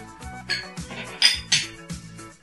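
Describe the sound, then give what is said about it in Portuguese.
Several bright glassy clinks ring out in quick succession as glasses are touched together in a toast to headphones, over a low murmur of background sound. “Cara, um brinde aos fones de ouvido, cara. Brinde aos fones de ouvido, por favor.”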